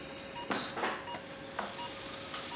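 A surgical drill runs steadily with a thin, constant whine over a hiss, broken by a few short, gritty bursts as it bites into bone during an operation. No one speaks.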